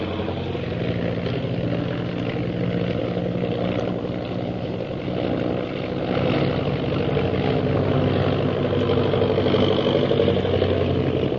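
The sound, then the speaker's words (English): A steady propeller-plane engine drones continuously in flight, a loud, even mechanical hum with a slight swell partway through, with no voices. “I'm going to try to sound our plane out of the reach of those purple triangle men.”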